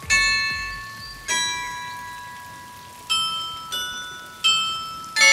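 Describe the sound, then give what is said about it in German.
The town hall tower carillon in Hofgeismar, northern Hesse, plays a slow, uneven sequence of bell notes at midday, each ringing out and fading before the next, over a steady background wash of a splashing fountain under a blue summer sky. “Das Glockenspiel tönt vom Rathausturm, der Brunnen plätschert und der Sommerhimmel ist schön blau.”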